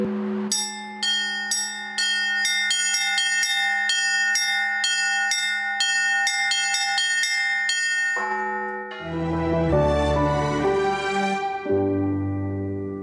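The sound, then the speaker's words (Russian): Orthodox church bells ring out in a simultaneous peal marking the Day of the Baptism of Rus, rapid overlapping strikes of several bells over a sustained hum, shifting partway through to deeper, heavier bells clanging together. No voices. “Впервые единовременный перезвон объединил храмы и монастыри православных государств постсоветского пространства и ряда других стран в 2012 году.”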